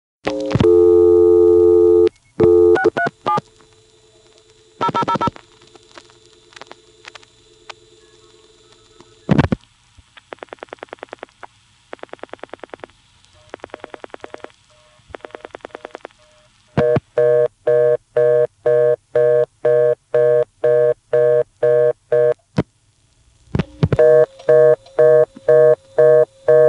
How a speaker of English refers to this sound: you can hear that it got the reorder just dialing the 100 group, 00, because you can hear it in the background as the last 2 digits are being dialed